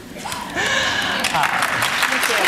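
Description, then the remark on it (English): An audience breaks into applause for a panel: a dense patter of many hands clapping swells in after a brief moment and holds steady and fairly loud, with voices faintly audible beneath it. “So please, a round of applause for our panel.”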